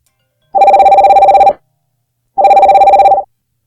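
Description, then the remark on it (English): A telephone rings twice, each ring a rapid, trilling burst about a second long separated by a short silence. The bell sounds loud, with no voices. “I just switched the phone to the mixer, and now you're going through.”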